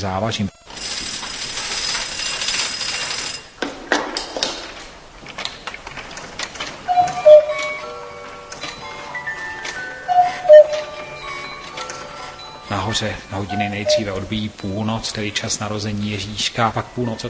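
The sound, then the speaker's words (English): Steady ratcheting and clicking of the old clockwork mechanism of a mechanical nativity scene, one weight-driven mechanism moving 142 figures through 350 movements, grinding along, with a couple of ringing chime-like tones in the middle as the clock strikes midnight, and a voice murmuring faintly underneath. “The clock strikes midnight, the time when Jesus was born.”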